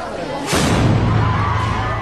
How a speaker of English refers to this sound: An explosion is heard at a venue where Japanese Prime Minister Fumio Kishida was due to make a speech on Saturday. Police detained a suspect who threw what appeared to be a smoke bomb.